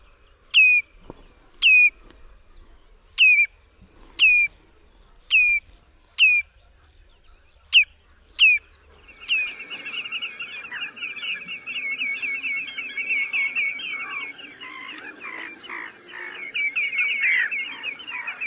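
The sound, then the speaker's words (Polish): A common redshank gives its alarm call near the nest: about nine sharp, piercing calls at steady intervals, then a loud, rapid, continuous chattering with no talking. “Głos zaniepokojenia w pobliżu gniazda jest natomiast ostrzejszy, bardziej przeciągły i niemal wybuchowy.”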